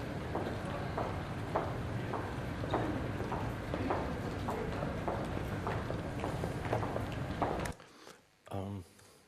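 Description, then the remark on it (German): A person's steady footsteps tap along at an even walking pace in a large car-free pedestrian zone over a busy outdoor background murmur, then the ambience suddenly drops away and a brief voice-like sound follows. “die wirklich weg ist vom normalen Straßenverkehrsklang und sie dort einfach so simple Dinge wie das Gehen eines Menschen, einfach die Art, wie ein Mensch reitet, wie er einfach Schritte sich einfach beobachten lassen.”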